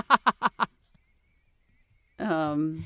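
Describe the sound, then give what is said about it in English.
Seagulls squawk loudly at each other: four quick, sharp calls in a row, a short pause, then one long, drawn-out cry that slowly falls in pitch. “I see some seagulls kind of just yelling at each other.”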